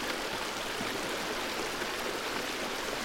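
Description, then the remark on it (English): A steady, gentle trickle of flowing water, like a small stream running over stones, continuous with no voices. “Focus on the sound of the water and relax your kidneys.”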